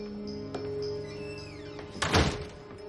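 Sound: door being closed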